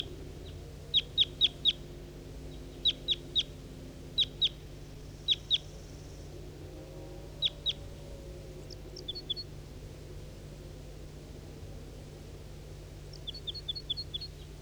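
bird, wild bird calling

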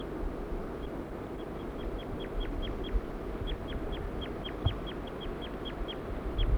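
bird, bird calls

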